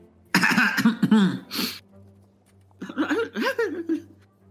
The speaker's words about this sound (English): Okay, she's going to walk up and just politely clear her throat.